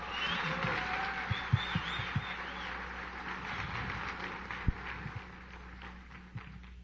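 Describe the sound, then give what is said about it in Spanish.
Audience applause at a convention, a dense steady patter of many hands clapping with a few sharper claps standing out, sustained for several seconds without any talking. “¿Cuántos de ustedes es su primera convención? Dense un aplauso porque este fin de semana ¡bravo!”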